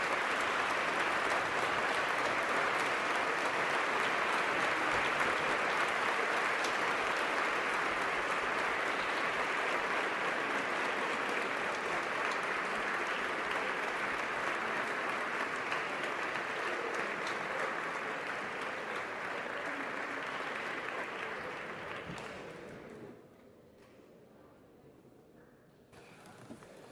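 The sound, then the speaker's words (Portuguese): Sustained applause from a large crowd at a Parlamento dos Jovens session, approving a final text by acclamation, a dense steady patter of clapping that holds strong for about twenty seconds before thinning out and fading away near the end. “então que aprovemos o texto final por aclamação, isto é, com um grande aplauso para dar mais força a esta recomendação aprovada a nível nacional.”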